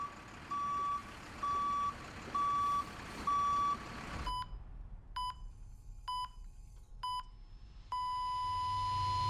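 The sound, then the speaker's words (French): A construction vehicle's reversing alarm on a construction site sounds a steady run of loud, evenly spaced high beeps over rumbling engine noise as the vehicle backs up, followed by shorter, sharper beeps and then a sustained tone, with no talking. “Sur un chantier, chaque manœuvre de recul d'un véhicule comporte des risques.”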